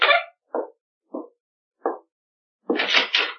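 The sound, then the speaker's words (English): Four slow, evenly spaced knocks on a door, followed by a louder, longer burst of rattling noise. No one speaks. “Answer the door. You answer it.”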